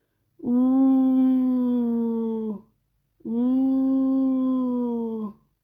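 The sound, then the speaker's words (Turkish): Two long, steady wolf howls, each lasting a couple of seconds and sliding slightly downward, separated by a brief pause. They sound fairly loud, with no talking. “Bu bir kurt.”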